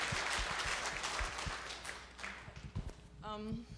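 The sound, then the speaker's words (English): A crowd applauds with dense, steady clapping that thins out after a few seconds, and a voice starts speaking as the applause dies down. “Yeah, you can clap.”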